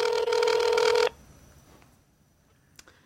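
A phone call rings over a speakerphone whose speaker is on the back: one loud, buzzy electronic ring lasting about a second, then it cuts off to quiet room tone with a faint click near the end.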